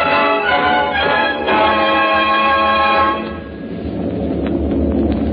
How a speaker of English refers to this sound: I'm in a C-54 transport. It's a beautiful airplane. The sound of those motors out there is soft and homey. Kind of rocks you to sleep.